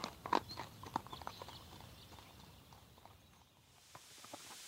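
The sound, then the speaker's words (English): Horses walking, some ridden and two carrying luggage, leaving Reykjavik, Iceland, with an uneven, overlapping clip-clop of hooves, the steps steady, sharper at first and then a little softer, with no voices. “and two more horses take the luggage.”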